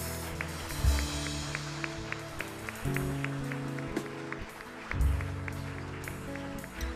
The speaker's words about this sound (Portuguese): Aplauda mais uma vez, querido.